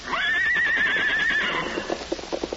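horse neighing

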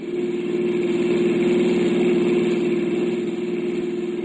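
car engine running

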